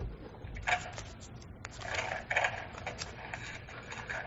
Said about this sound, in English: I don't know who's on the phone here, but I can hear the pages turning.